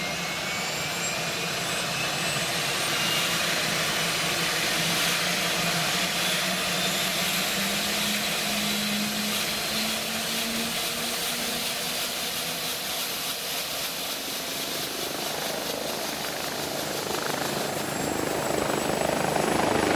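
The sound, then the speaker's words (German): A helicopter drones steadily overhead as it flies past the Säntis toward Feldkirch to transfer a badly injured patient to Zurich; its dense rotor and engine roar fills the whole clip at a loud level, with a slowly rising whine running through it and no voices. “den Helikopter am Sentis vorbei Richtung Feldkirch fliegt, sind die Bergspitzen in Schnee gepackt.”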